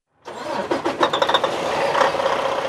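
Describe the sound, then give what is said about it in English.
A truck engine turns over with a quick run of pulsing cranks, then catches and settles into a steady, rumbling idle on a packed gravel lot near a truck stop in southwest Iowa. No one speaks. “On a packed gravel lot near a sprawling truck stop in southwest Iowa, Ellie O'Dare has found a place to park her truck for the night.”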